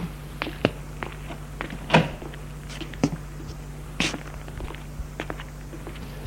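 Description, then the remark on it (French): A woman in a white nightgown gets out of bed and opens her bedroom door: a few soft clicks and thumps spread over several seconds, with light footstep-like taps and a low steady hum underneath, no voices. “ouvre la porte de sa chambre.”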